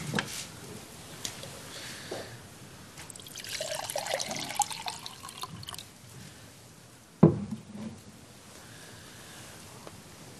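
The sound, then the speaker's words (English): Water is poured into a glass, a steady trickle whose pitch rises as the glass fills, followed by a sharp clunk as something is set down, then quiet handling sounds. “If you want to open your Bibles to Genesis 13, 1 to 18, while I concede to my need to wear glasses and put them on and get myself a glass of water.”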